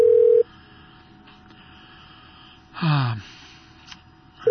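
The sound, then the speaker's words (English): A telephone line rings out, with a steady ringback tone at the start that returns at the end, separated by quiet line hiss and a brief noisy burst midway. “I should be ringing now.”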